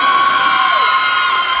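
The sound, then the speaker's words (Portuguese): A crowd of single women shrieks and cheers at once, a loud, sustained high-pitched roar of many voices that fills the whole moment without pause. “A mulherada que tá solteira, dá um gritinho aí então.”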